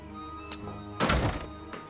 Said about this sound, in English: The boy grabs the card as the door bursts open.